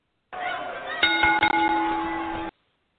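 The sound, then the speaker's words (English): A bell strikes twice in quick succession, its tones ringing on and slowly fading over a murmur of crowd noise, all sounding muffled and thin like a replayed recording. “That's the bell sounding”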